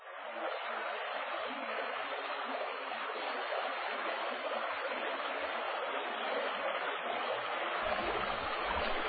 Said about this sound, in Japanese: 三条通りを東へと進み、鴨川にかかる三条大橋を渡れば、あたりに清らかな瀬音立ち、望めば川面が天を受け、波間わずかに光揺らめくことしきり。